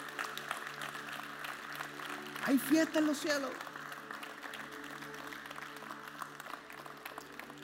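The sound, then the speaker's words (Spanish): An audience at Champion Forest Northline applauds to celebrate someone accepting the Lord, a steady, dense patter of clapping that lasts throughout, while a man's voice briefly rises over it near the middle. “Celebren, aplaudan.”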